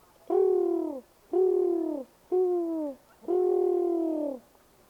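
Four drawn-out pigeon coos in a steady, even rhythm, each a low, mellow call that sags slightly at the end, heard clearly with no voices, from pigeons visiting a chicken yard.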